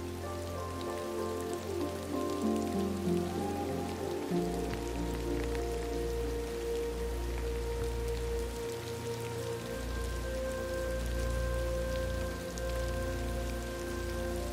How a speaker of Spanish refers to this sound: La lluvia se conecta a tu corazón, trayendo consigo recuerdos, momentos de tu vida que tal vez te han conmovido, te han dolido